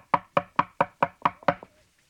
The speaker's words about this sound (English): a taxi drove up in front of my house, and suppose somebody knocked on the door?